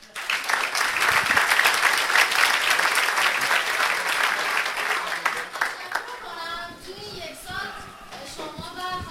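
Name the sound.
audience applause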